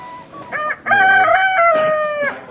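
A rooster lets out a single loud crow: a brief opening burst, then a long, strained, harmonic note that holds steady before tapering off. No voices are present.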